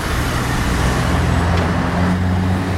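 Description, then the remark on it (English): Steady roar of street traffic at the traffic lights on Commercial Street, with idling and passing engines. A low, rumbling hum holds level throughout, and broad road noise fills every moment without pause or voices. “And now we're at the traffic lights.”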